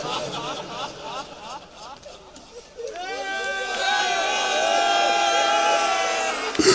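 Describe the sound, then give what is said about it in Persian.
A crowd of people weeping and wailing together at a mourning gathering, many overlapping voices rising into a loud, sustained lament after a few seconds of murmuring. “این گریه مال این جمع نیم، من هزار بار تو فضا باز خوندم صدا گریه بالا نمیره.”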